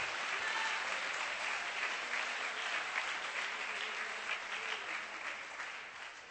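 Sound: audience clapping hands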